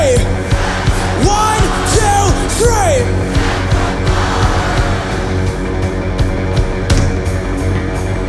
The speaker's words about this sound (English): On the count of three, we're gonna yell sacrifice as loud as we can. Ready? 1, 2, 3!